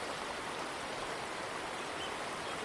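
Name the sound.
flowing river water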